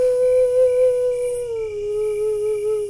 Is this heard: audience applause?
no